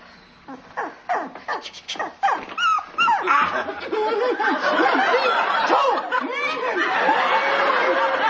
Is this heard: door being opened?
no